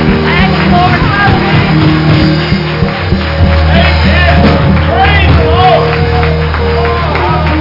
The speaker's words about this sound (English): One more hand clap for Jesus.